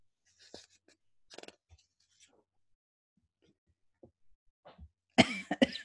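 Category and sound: human body sound, person coughing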